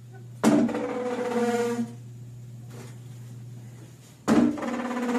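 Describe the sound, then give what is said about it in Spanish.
A restroom door bangs shut twice, a few seconds apart, each impact sharp and ringing briefly before fading, with a steady low electrical hum running throughout. “Ese es el de la puerta. Este es el de la puerta.”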